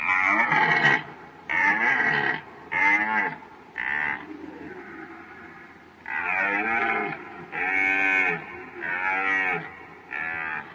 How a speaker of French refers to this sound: Voir un cerf en rut, en train de chanter au beau milieu d'une clairière, laisse vraiment un souvenir inoubliable. Parlons du chant du cerf, et vous ne l'avez peut-être jamais entendu. Alors, en voici un petit échantillon.